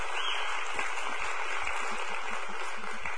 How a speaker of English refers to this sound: So, would y'all give the new people one more round of applause, please?